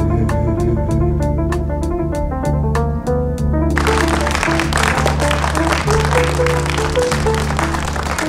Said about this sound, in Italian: C'è un grande applauso, grazie, grazie mille, grazie a tutti. Pubblico, il nostro pubblico che ci applaude, grazie, grazie.